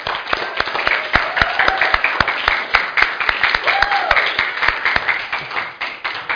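A round of applause from a group for the kitchen staff and everyone who helped with the weekend, with many overlapping claps forming a dense, steady patter that continues at an even level for several seconds, with a few sharper individual claps and faint voices underneath.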